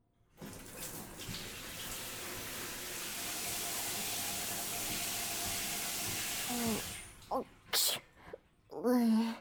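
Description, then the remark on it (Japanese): A steady rush of running water pours for several seconds in a bathroom, rinsing soap foam off a person, then cuts off as a voice speaks briefly. “じゃあそろそろ泡を流してやらないとな。”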